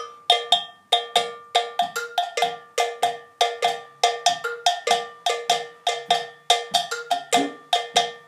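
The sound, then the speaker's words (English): A metallic percussion bell plays the second bell part of a full drum recording: a steady, interlocking rhythmic pattern of bright, ringing strikes, some accented and some quick doubled hits, repeating throughout with no voices. “Second bell.”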